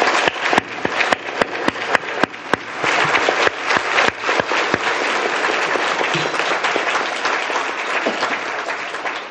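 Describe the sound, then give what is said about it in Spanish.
An audience bursts into sustained applause for doña Luz Chapela and doña Ofelia Cisneros, opening with sharp individual claps that blend into a steady, loud wash of clapping lasting several seconds. “Ellas son doña Luz Chapela y doña Ofelia Cisneros, para quienes pido un enorme aplauso.”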